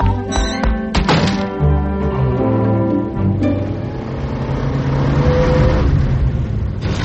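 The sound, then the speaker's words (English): A car engine turns over with a thunk and catches, then revs and settles into a steady rising hum as the vehicle pulls away and keeps driving. “Can't you drive a little faster?”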